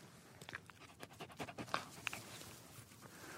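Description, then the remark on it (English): A dog pants rapidly and steadily, quick breathy huffs repeating in an even rhythm, with no talking over it. “How are you doing, famous dog? What's it like being a famous dog?”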